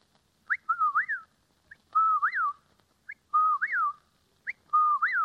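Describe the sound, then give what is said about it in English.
A person whistles an imitation of a whippoorwill's call, the second in a series of bird imitations, repeating the clear three-part phrase four times in a steady rhythm, fairly loud, with short pauses between. “The second is a whippoorwill.”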